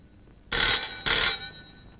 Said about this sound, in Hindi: ओ ये लो, जो फोन आया।